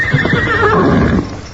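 A horse named Silver whinnies in a loud, quavering neigh that wavers in pitch for over a second, then trails off with a softer snort, no voices present.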